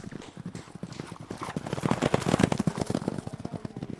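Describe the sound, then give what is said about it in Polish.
Rapid, pounding hoofbeats of a horse galloping fast during horseback archery, a dense drumming rhythm that swells louder toward the middle and stays steady for the whole stretch. “I oczywiście jak się strzela z łuku, to koń szybko biegnie, galopuje i moment, kiedy strzelasz, to też jest pobudzający i te endorfiny w górę.”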